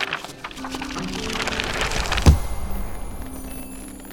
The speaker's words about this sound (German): Das Tagebuch schließt sich mit einem Rums. Ein paar letzte Funken tanzen um den Ledereinband.